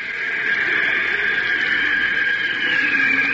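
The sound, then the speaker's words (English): Steady, loud rushing of wind from a car moving at about 30 miles an hour, a continuous hissing roar with a bright, airy edge that holds constant throughout, with no voices. “That's the artificial wind your car creates when you're driving around 30 miles an hour.”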